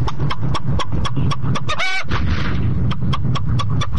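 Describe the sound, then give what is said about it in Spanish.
A person who identifies with a hen imitates a chicken, letting out a steady run of quick, sharp clucks with a drawn-out squawk in the middle, loud, with no other talking. “Yo me identifico con una gallina.”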